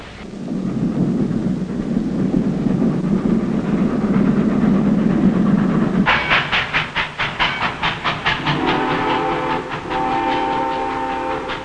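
A train rolls along the rails with a heavy, steady rumble, then breaks into a fast rhythmic clatter of wheels over track joints before a sustained horn blares near the end.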